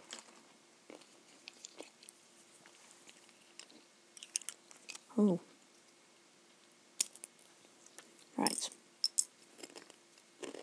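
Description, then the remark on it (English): Sharp cracking snaps of nuts being cracked with a nutcracker, a few loud bursts among scattered small clicks and rustles, with brief quiet remarks from a voice. “I just thought I'd share a bit of the nutcracking noise with you.”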